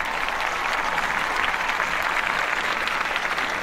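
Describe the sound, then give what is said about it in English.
Steady, sustained applause from an audience welcoming an author guest to the Writer's Block, a dense crackle of many hands clapping at even loudness with no voices breaking through. “You got the clap,”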